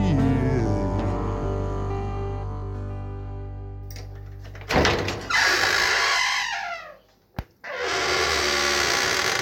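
A song fades out, then a cellar door creaks loudly on its hinges and shuts with a single sharp thud, leaving a brief rushing, hollow noise afterward. No one speaks.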